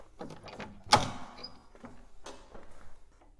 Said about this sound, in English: As the massive doors to my chamber open, I can't help but let out a squeak of excitement.